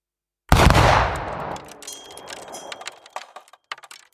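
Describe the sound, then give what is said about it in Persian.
A single loud revolver shot sound effect bursts out of silence, its blast rolling off into a long echoing decay with scattered faint clicks and rattles trailing afterward. “لطیف یک گاز به طرف دیگر نان می زند و می گوید حالا شد یک هفتیر و به سوی من شلیک می کند.”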